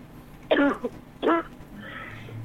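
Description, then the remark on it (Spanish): Two short, harsh bursts of coughing and throat clearing from a person with a slight flu, fairly loud, separated by a brief pause, followed by a low background hiss. “Le dio tos, está ahí.”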